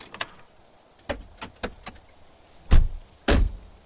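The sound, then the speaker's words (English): A car pulls to the side of a single-lane road by a white building and parks half in the grass: a string of sharp mechanical clicks, then two heavy, solid thuds near the end, with no voices over a quiet background. “I pulled to the side and parked half in the grass.”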